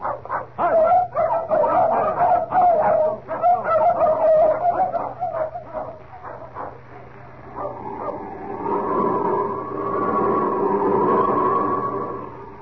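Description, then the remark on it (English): Several dogs, including Chico and Frisco, bark and yip in a rapid, excited flurry for several seconds, then the barking gives way to drawn-out whining and whimpering. “I'm going to take these dogs part of the way, just for the sake of appearances.”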